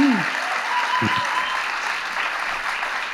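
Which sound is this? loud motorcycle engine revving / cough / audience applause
audience applause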